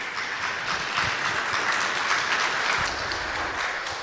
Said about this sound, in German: bitte einen riesigen Applaus für die beiden.